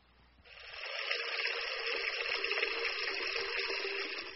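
Water pours steadily into a glass, a continuous splashing rush that starts abruptly and holds at a fairly even level for several seconds, with no voices.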